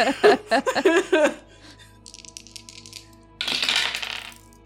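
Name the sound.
dice being rolled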